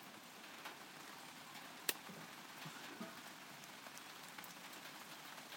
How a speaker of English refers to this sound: Well, guess what, everyone? It's raining.